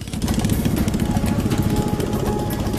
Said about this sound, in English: One party travels by boat.